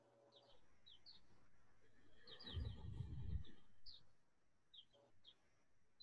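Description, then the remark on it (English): Birds chirp in the background, short high tweets coming in scattered bursts throughout, with a brief low rumbling noise swelling in the middle. No one speaks. “I love that I can hear somebody's birds.”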